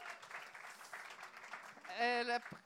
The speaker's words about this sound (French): Fait qu'une bonne main d'applaudissement pour Yannick, même si elle n'est pas là.